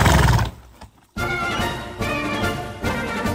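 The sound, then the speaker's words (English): A horse named Franklin Delano Roosevelt snorts loudly and briefly, falls silent for a moment, then lets out a long, quavering, strong whinny, with no one speaking. “That's a good name for a horse, Franklin Delano Roosevelt.”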